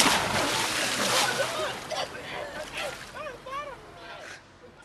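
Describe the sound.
Rough sea water churns and splashes continuously as a person swims against big waves and a current, trying to reach land, with scattered cries and shouting of fellow travellers fighting for their lives in the water rising over the turbulent wash.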